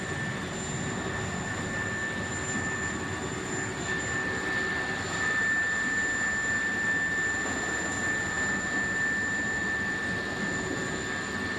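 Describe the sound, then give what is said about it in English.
A helicopter's engine and rotors run steadily during an earthquake aid operation as people, including children, run toward it; a loud continuous roar with a high turbine whine held throughout and no voices. “Okay, more people are making it to the helicopter.”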